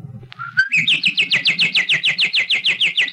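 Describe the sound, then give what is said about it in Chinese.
A magpie calls in a rapid, even series of about a dozen bright chirps, loud, with a low murmur of background noise underneath. “喜鹊，你对这小朋友讲。”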